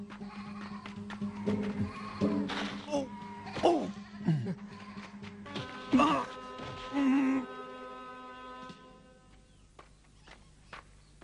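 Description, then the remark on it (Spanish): A flock of sheep bleats in a rush of overlapping, quavering calls, loud, then the calls trail off, leaving quieter outdoor rustling and faint clatter. “Este hombre quería robarnos las ovejas.”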